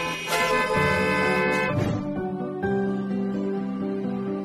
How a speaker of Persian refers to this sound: یه جاهای بوق زدنم ممنوعه؟